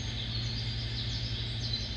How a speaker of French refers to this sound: Il y a des oiseaux qui viennent se poser sur les rails du train et qu'on entend, ouais, encore le bruit des oiseaux.